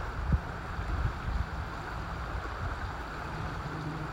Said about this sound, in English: It's flowing quite quickly today. We have had quite a bit of rain recently, so the river is well and truly in full spate. In fact, there's a tree on the opposite bank that's branches are just being dragged along by the water.